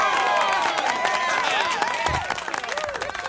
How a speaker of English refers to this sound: Clap it up for the spotlight player of this Thursday, August 12th.